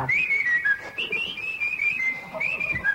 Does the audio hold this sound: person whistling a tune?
yes